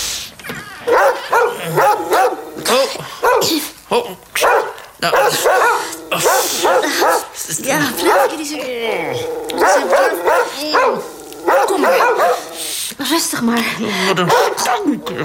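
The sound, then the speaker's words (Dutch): Several dogs bark loudly and nearly nonstop, sharp overlapping barks mixed with higher yips and a few whimpers, with people's voices faintly underneath. “Die honden hebben hem opgegeten.”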